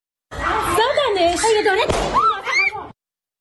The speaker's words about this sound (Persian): از کرمانشاه ویدیویی رسیده که تیراندازی به معترضین با سلاح کمری رو نشون میده و گزارش های هنوز تایید نشده حاکی از کشته شدن یک نفر در این تیراندازی هاست. صدای ویدیوی کوتاهی از این رخداد رو بشنویم.